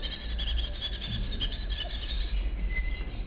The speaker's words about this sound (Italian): La quiete dopo la tempesta di Giacomo Leopardi. Passata è la tempesta, odo uccelli far festa.